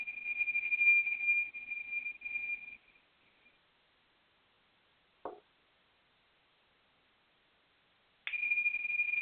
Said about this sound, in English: I'm going to ring a chime and begin.